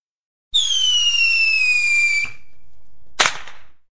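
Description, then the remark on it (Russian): A shrill, steadily falling whistle streaks upward for nearly two seconds, followed a moment later by a single sharp, loud crack, as flare guns fire red and green thermite flares about 70 metres into the sky over Hamburg. “Тут же захлопали и остальные ракетницы, превращая пространство над Гамбургом в зону сплошного салюта.”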